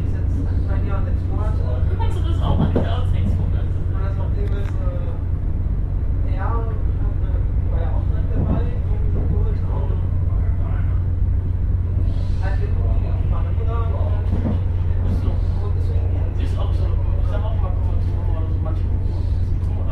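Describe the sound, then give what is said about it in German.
Steady low rumble inside a moving, moderately full regional train in Germany shortly before stopping at the Dechenhöhle, loud and constant, with muffled voices of passengers murmuring underneath. “Der Zug ist so mittelgefüllt, das ist in der Raschaue natürlich anders.”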